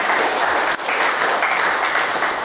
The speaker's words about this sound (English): Three cameras? Round of applause for Johnny.